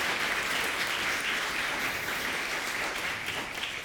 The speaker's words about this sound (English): Let's give our kids all a round of applause for helping.